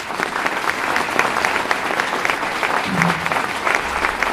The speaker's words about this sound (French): Donc je voudrais qu'on les applaudisse très fort.